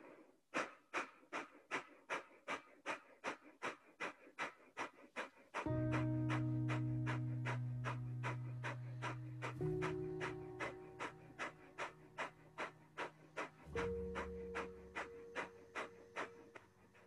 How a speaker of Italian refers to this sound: La schiena diritta come sempre, braccia appoggiate tranquillamente sulle gambe. Primo ciclo di Kapalabhati.